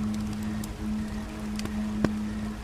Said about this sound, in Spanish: Y el sonido de una corriente de agua también se manifiesta en tu atención auditiva. Parece ser que algún río cercano debe pasar por aquí.